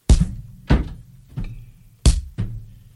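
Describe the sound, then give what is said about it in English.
Five heavy, booming thuds slam against a door as someone tries to break through it, in quick, uneven succession, loud, each with a short resonant decay and no voices in between. “I'm trying to get the breakthrough here, Detective. The door won't budge.”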